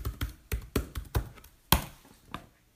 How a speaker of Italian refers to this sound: Adesso andiamo a digitare nella barra degli indirizzi, quindi faccio Alt+, indirizzo e cerca utilizzo.